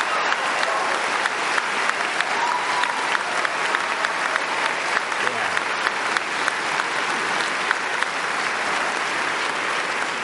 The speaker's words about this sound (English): Congratulations. Yes. Give yourself a round of applause, please. Please.